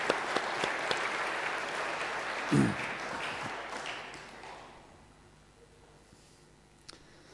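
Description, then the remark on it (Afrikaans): An audience applauds warmly for the minister's wife as a minister hands her flowers for her birthday, with dense, steady clapping that gradually thins and fades out after about five seconds, leaving near quiet with a faint thump near the end. “Ons geef haar lekker hande klap.”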